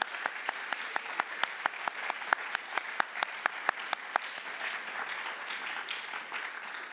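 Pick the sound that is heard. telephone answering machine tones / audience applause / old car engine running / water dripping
audience applause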